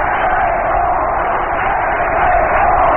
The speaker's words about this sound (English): And the crowd is chanting, let's play ball.